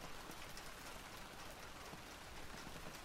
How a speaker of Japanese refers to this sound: うん、でもきっと誰かが泣いてるから雨が降るんだよ。世界の中で誰かが泣いてるから雨が降るんじゃないのかな。そうだね、きっと雨は涙なんだ。